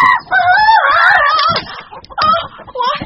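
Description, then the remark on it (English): A giant hen clucks and squawks loudly, a run of agitated, rising calls followed by a few shorter clucks, with no voices. “Oh, that hen. A giant hen.”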